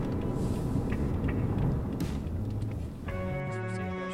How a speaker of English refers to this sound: Right now, driving on the 8 East. Returning on the Sunrise Highway soon to go to Mount Laguna